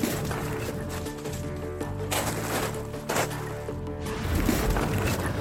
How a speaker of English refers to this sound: The sound of footsteps in the snow is terrifyingly clear. Something's out there in the trees.